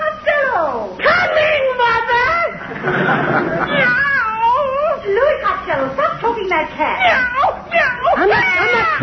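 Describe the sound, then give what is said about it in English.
A cat meows and caterwauls almost without pause, loud, its drawn-out yowls rising and falling in pitch, with a rougher, hissing stretch near the start. “Well, there's no money in that cat.”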